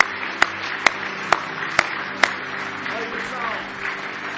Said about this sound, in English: Give him one more hand clap of praise tonight if you love him.